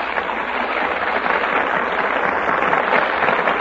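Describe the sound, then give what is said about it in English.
Steady, dense applause from a large studio audience in the Gulf Theater, for the stars taking their places before the Gulf microphone for a radio broadcast of Torrid Zone; a continuous wash of clapping hands at a fairly loud, even level throughout, with no voices. “That applause is for our stars who have just taken their places before the Gulf microphone.”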